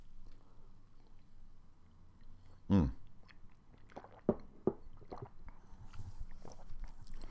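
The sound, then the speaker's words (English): Mouth sounds of someone sipping a coffee drink: one louder slurp-like burst, then a few soft gulps and lip clicks over a faint low background hum, with no talking. “Excuse me while I sip this delicious coffee drink.”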